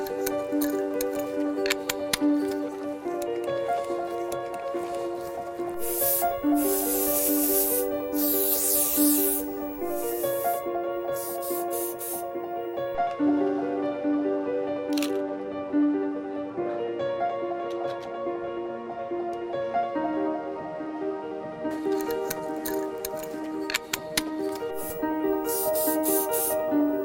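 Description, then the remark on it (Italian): Several bursts of aerosol spray paint hiss out in short and longer blasts, clustered in two stretches, over a steady background of tonal music with no talking. “Ho cominciato a fare graffiti nel lontano 93, quindi con l'arte delle bombolette, gli spray.”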